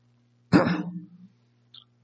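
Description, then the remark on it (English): A single fairly loud throat clearing by someone with a cough drop in the wrong spot: a sharp gravelly burst that rumbles off over about a second, followed by a faint small click. No one speaks. “Got my cough drop in the wrong spot.”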